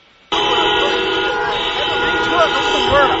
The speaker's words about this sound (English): For several minutes at the exact time in the afternoon the quake struck in Sichuan province 1 week ago, cars stopped and blared their horns.